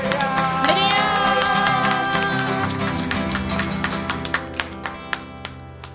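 An audience claps in thanks after worship singing, over sustained, fading music; the dense clapping thins out until only a few scattered, sharp claps remain at the end.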